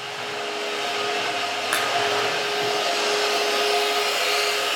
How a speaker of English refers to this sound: He plugs in a vacuum and makes a round through the sanctuary.